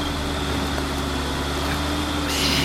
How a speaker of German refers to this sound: Wer fährt denn um die Uhrzeit noch hier rum? Das ist ein Traktor. Stimmt. Aber das ist ja einer von unseren.